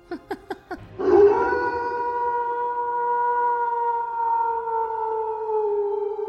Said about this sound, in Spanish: Un lobo. Un lobo se escuchó.